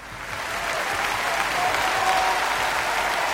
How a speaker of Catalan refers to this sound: Clar que sí, aquest aplaudiment més que merescut pels Brivalls de Cornudella de Montsant per aquesta nova fita aconseguida, no?